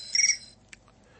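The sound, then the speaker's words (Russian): A short, high electronic ringing tone on a phone line as a priest calls in, one brief burst at moderate volume, followed by a faint click and quiet line hiss. “Сейчас вот батюшка звонит.”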